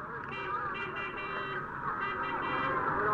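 A car engine hums steadily and climbs slightly in loudness as a family's car pulls away, heading to the shrine of Saleh, grandson of Imam al-Kazim; a sustained, buzzy motor drone with no voices over it.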